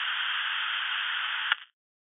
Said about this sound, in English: the suddenly loud static of the radio piercing the silence and stopping him cold. He adjusts the dial, trying to hone in and tune the static down, if not out.